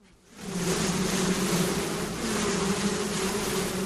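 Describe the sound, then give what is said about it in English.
A dense, steady buzz of many honeybees swarming around an opened hive on a hot, overcast day with a stiff breeze while a smoker is worked, a continuous droning hum with shifting tones that rises quickly and holds for several seconds, with no talking. “It wasn't the best day to check on bees.”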